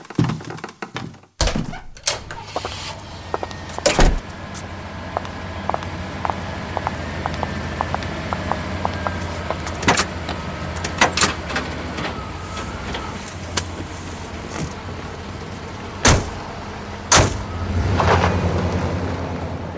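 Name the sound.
car door and engine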